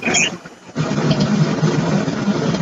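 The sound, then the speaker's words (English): A train rolls by with a steady, heavy low rumble and mechanical hum. The noise dips briefly early on, then holds loud and unbroken to the end, with no talking. “I'm just going to wait for the train to roll through.”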